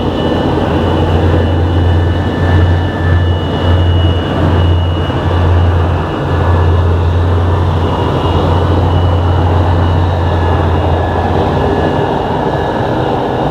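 A steady, enveloping airplane engine drone as heard from inside the cabin, a deep constant hum with a faint high whine, unchanging throughout with no voices.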